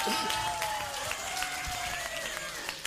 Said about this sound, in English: Big round of applause.